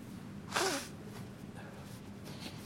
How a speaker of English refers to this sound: I need to blow my nose.